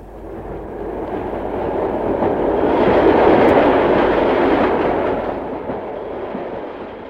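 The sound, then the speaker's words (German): A train arriving at track 1 in Mannheim, Germany, on 14 November 2007 rumbles along the railway track, its heavy roar swelling steadily as it draws in, peaking mid-clip, then gradually easing off. No one speaks. “Der Zug der Erinnerungen trifft in Mannheim ein.”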